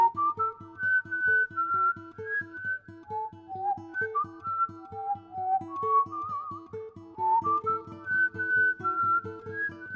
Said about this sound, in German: La Casta Diva von Vincenzo Bellini in gepfiffener Version.